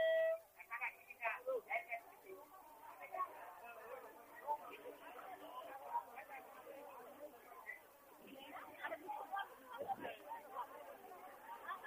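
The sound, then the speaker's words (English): Dense chatter from a huge crowd of thousands of people trying to get on a boat to cross a river, many overlapping voices merging into a continuous, steady hubbub with no single speaker standing out, sounding slightly muffled and thin throughout. “It's an ocean of people.”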